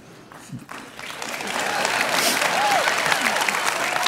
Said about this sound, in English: The guys are like, why are they clapping?